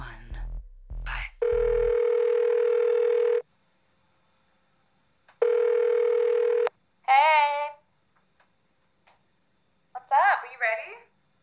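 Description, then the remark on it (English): After a few clattering clicks as a phone is hung up, a steady, buzzing telephone dial tone sounds in two long bursts, followed by short, wavering vocal sounds. “I'm gonna put my phone down now.”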